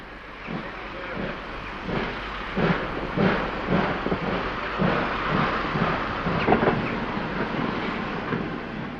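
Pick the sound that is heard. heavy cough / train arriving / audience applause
train arriving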